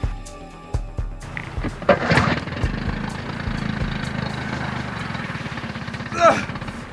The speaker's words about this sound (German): Oh nein, wieso geht der Motor nicht an? Der Benzintank war leer.